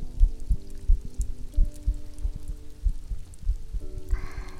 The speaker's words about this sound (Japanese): お姉ちゃんの心臓の音です。生きてる音。安心しますかね。